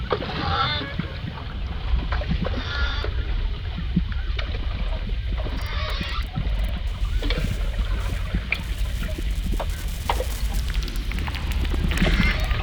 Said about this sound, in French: Alors là, ça évoque des bateaux parce que c'est probablement les rames, mais si on regarde pas. Et là, on entend très bien la rame. Là, c'est effectivement, ça ressemble à un enregistrement de bateau. Et c'est un bateau.